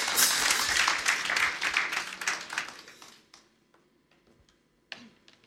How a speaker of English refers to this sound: Praise the Lord. Give her a round of applause again, please.